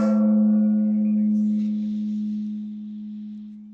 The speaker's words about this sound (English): It's really just an excuse to use the gong. Like, I'll be the first to admit it. It's just, I love having it nearby, and any reason to use it, we use it.